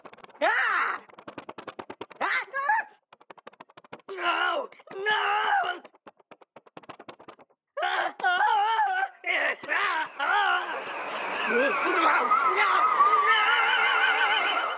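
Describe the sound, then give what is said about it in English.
A processed voice warbles and groans in short bursts as automation increases the modulation rate, narrows the left-to-right panning and raises the pitch shift, until it smears into a dense, continuous wavering wash. “So using automation, I'm increasing the rate at which the modulation happens, as well as narrowing the left to right motion, the panning, and increasing the pitch shift as well.”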